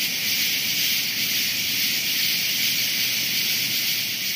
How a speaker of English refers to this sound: On a nighttime ride this weekend, the sound was enveloping. These frogs were recorded a little before 9 p.m. on the Constitution Trail near the Conilink Amphitheater.